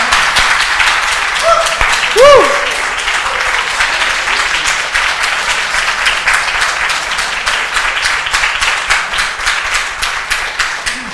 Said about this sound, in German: Gib ihm mal einen Applaus. Lass uns mal alle aufstehen und ihn.